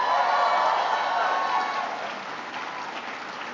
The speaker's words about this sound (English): Can everybody please give a big round of applause to Judy Chu for her outstanding service?